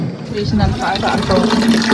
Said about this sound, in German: Gut, und jetzt wird gegossen, wenn ich das richtig sehe, ja?